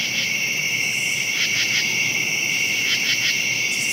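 Steady, high-pitched cricket chirping fills the night at about 2 a.m., a continuous shimmering trill with a few brief pulsing bursts layered over it, constant throughout.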